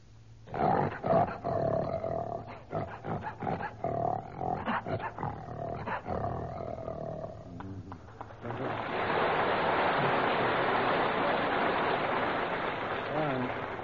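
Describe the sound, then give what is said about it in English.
A human voice imitates a lion's roar with rough, throaty growls that pulse and surge for several seconds. Then a loud, steady wash of hissing noise takes over. “And a lion?”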